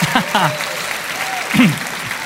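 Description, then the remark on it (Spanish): A crowd applauds in praise of the Lord during a sermon, steadily for a couple of seconds, a dense wash of clapping with a few voices calling out and shouting over it. “¡Aplaudan al Señor de señores!”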